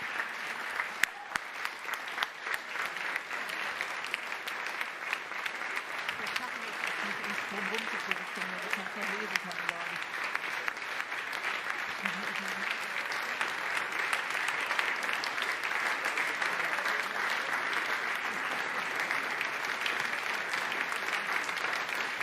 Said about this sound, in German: Kommt bitte zügig auf die Bühne, ziert euch nicht, kommt bitte jetzt ganz schnell hier auf die Bühne, begleitet mit einem großen Applaus.